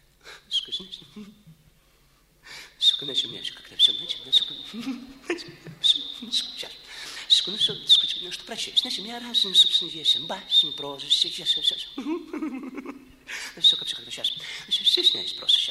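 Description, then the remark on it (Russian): A thin, high-pitched whistle, like a bird's, threads almost continuously through someone talking, breaking off in short gaps. It sits steadily above the voice. “Я понимаю, что Соловья-разбойник он может играть в будущем, потому что его талант, так сказать, вырывается из него, но со свистом,”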